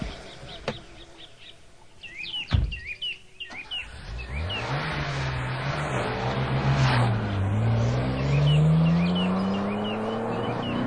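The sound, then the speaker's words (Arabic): A luxury car's engine roars up from idle and revs hard, its pitch climbing and dipping as it accelerates, loud, with birds chirping faintly in the background at the start. “امتلك سيارة فارهة.”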